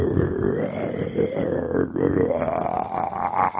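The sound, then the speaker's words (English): A person imitates a lion's low roar, the rumbling roar from the pillar in the story of Prahlad and Nrsingadev, with a sustained, guttural rumble lasting several seconds, deep and rough, like a lion getting ready to roar, rising slightly in pitch toward the end without breaking. “So this very low kind of sound, which was coming like from the depth, the way lions gets ready to roar.”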